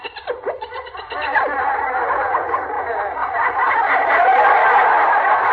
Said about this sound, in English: The chatter of the monkeys.